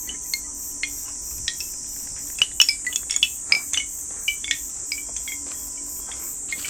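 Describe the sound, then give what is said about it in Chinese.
A wind chime hanging under a mulberry tree, moved by hand with no wind, jingles unevenly, sparse bright tinkles swelling into a quick flurry midway before thinning out again, all over a steady high chirring of crickets. “桑葚树下挂了一只风铃，其实没有风，这是我手动的声音。”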